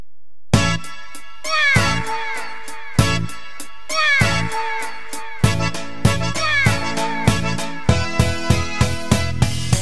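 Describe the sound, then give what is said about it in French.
Voices mimic cat meows, crying "miaou" in rising and falling wails over an upbeat rhythmic dance music track with sharp, regular percussive hits. No one talks. “Pliez les bras, les pieds joints, sautez devant vous et retournez-vous tout en criant miaou.”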